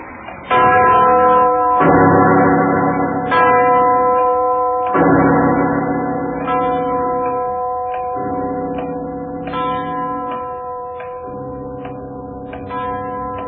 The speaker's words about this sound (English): It's the clock winding up. That giant bell's gonna...